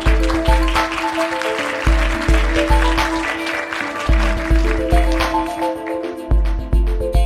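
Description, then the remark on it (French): An audience claps steadily to welcome a guest invited to talk about creativity, while an upbeat music jingle with a thumping, regular beat plays loudly over the applause throughout. “On peut l'applaudir.”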